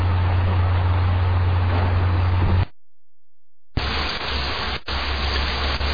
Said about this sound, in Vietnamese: Alo, alo quý vị nghe không? Ở đây như là mưa nó hơi lớn quý vị